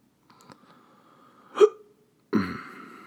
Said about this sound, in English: I don't know what's wrong with me, guys. I don't. I keep burping. Dude, I don't know what's going on.